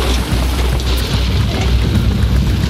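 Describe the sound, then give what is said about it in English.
A loud, unbroken low rumble of thunder from a big storm rolls beneath a steady hiss like wind and rain, holding at the same level throughout with no voices. “It certainly feels like a very big storm from my vantage.”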